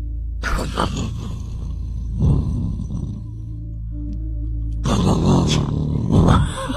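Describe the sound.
A voice imitates thunder with gravelly, growling rumbles, two loud rolling bursts separated by a quieter low drone, the second swelling rough and noisy before cutting off.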